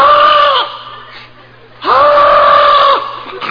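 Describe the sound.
A woman screams in loud, high-pitched, sustained bursts: a short cry, a pause, then a longer held scream, with another starting just as the sound cuts off.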